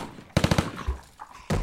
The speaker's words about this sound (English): Cease fire! He's down! You know this guy?